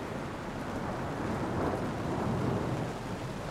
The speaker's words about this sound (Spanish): Los truenos suenan, la lluvia cae a cántaros.